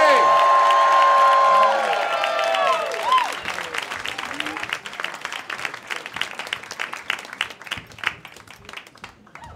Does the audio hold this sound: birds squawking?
no